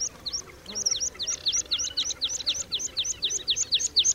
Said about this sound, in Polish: Piosenkę w pełnym brzmieniu można usłyszeć tylko u ptaka wykonującego lot tokowy. Gdy samiec wzlatuje, intensywnie uderzając skrzydłami, jego głos staje się coraz szybszy i głośniejszy.